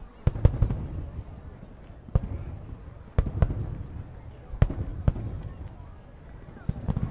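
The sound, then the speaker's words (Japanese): Fireworks crackle and pop in a loose, irregular series of sharp bangs filling the view, some clustered close together, at an outing with cotton candy and yo-yo fishing stalls, with a steady murmur of voices and crowd noise underneath. “うわ、目の前全部花火だよ。”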